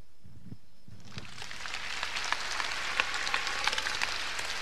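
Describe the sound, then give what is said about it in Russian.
After a brief quiet moment, an audience bursts into steady applause, a dense crackle of many hands clapping that holds at a fairly even, moderate level until the end. “Но вы мне нравится, вы мне так хорошо хлопаете, я даже уже не волнуюсь.”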